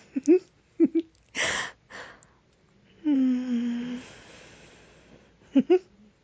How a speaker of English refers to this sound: Oh, thank goodness he's still sleeping. He's snoring.